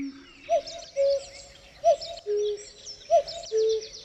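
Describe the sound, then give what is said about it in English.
A cuckoo calls three times in a recorded music track built by layering bird recordings, each a clear two-note 'cu-coo' that drops in pitch, evenly spaced against a soft, hazy background wash with no talking. “It felt like being let into a secret world where bird noises kind of become conversations.”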